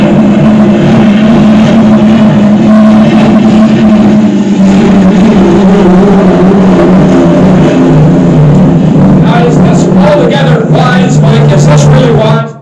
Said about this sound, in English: I mean, that would put, as a young kid, I would have to put my fingers in my ears because that got so loud. Those boats were probably on the straightaways going upwards of about 200 miles an hour.